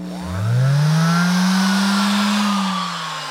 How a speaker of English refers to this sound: This is the throatier, put it in musical terms, hand sander.